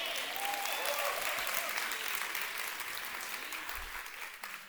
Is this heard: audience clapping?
yes